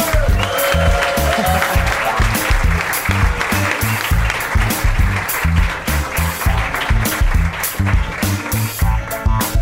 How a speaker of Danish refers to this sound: Vi skal også, jeg vil gerne have, at I giver et stort bifald til min anden medvært,